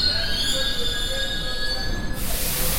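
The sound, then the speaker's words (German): A metro train running underground on rubber tyres, 80 tyres per train, squeals steadily with high, sustained whining tones over a low rumble, then the squeal cuts out into a broad rushing noise at the end. “Bis Mitternacht quietscht die Metro auf ihren 80 Gummireifen pro Zug durch den Untergrund oder saust oberirdisch am allabendlichen Verkehrschaos vorbei.”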